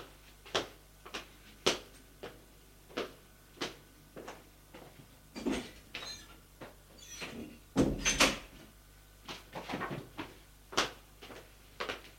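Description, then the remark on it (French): A desk drawer is opened and files are taken out of it, amid a run of wooden knocks and clicks, irregular and fairly sharp, with a louder sliding rumble partway through, no voices. “Ouvre le tiroir du bureau, en prend les dossiers et revient vers Fred.”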